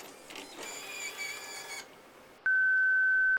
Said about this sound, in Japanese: 続けざまに電話がかかってくる。私は何も考えず受話器に手を伸ばした。